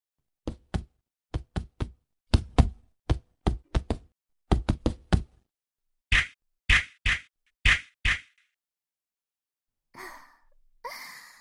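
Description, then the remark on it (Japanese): A rapid flurry of punches thuds against a body, about fifteen sharp hits in quick irregular bursts, then several heavier blows, followed by breathy sighs or gasps at the end. “最後の方、綺麗に全部入っちゃいましたね。私のパンチ、どうですか、先輩？”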